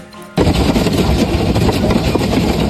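Hailstones hammer an airplane fuselage at Roissy during a night hailstorm, starting abruptly after a brief quiet moment and becoming a loud, dense, continuous clatter of rapid metallic impacts over a deep roar.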